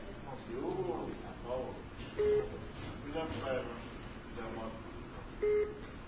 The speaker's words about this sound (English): as soon as you pressed the elevator button, the beeping increased in frequency, like it got excited that somebody else was doing something. I'd like you to press the button of this elevator here. Let's see if this beeping increases.